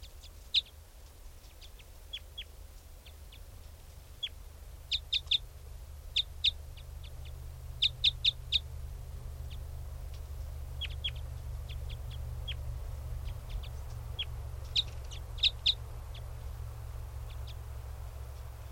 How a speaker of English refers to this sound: Still 395 calling. They're calling. This is one of the birds. Wild bird. That's 395.